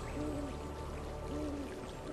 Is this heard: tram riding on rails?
no